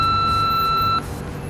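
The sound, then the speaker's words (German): A single steady electronic voicemail answering machine beep tone, clear, holds for about a second and then cuts off, leaving a low background rumble. “Hinterlassen Sie eine Nachricht nach dem Tonzeichen.”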